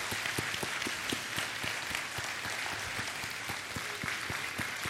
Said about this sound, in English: Can we just give another round of applause to our children's ministry, to the kids?